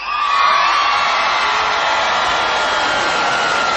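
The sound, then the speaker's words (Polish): A large crowd of young people shouts and cheers continuously, a loud, dense wall of voices with whoops rising above it, sustained without pause throughout. “Ponieważ tak krzyczą, więc jeszcze raz się zwracam do młodych.”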